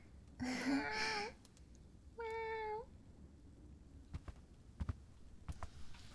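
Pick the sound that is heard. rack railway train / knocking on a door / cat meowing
cat meowing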